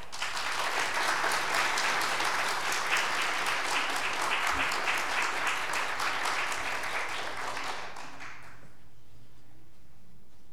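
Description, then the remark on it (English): Steady crowd applause welcoming a speaker, a dense wash of many hands clapping at a constant level for about eight seconds before fading quickly into quiet. “Please welcome”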